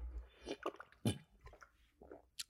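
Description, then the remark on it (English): Quiet wet mouth sounds of someone sipping water, with a few small slurps and swallows and a soft gulp near the middle, no talking. “Sorry, I need water.”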